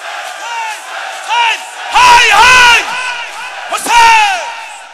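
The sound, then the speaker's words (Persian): A large crowd shouts together in a loud, sustained cry, with several surging swells of many voices rising and falling over a few seconds, intense; they have been urged to give their first cry however they like. “اولین فریاد تو، هر جوری دوست داری فریاد بزن.”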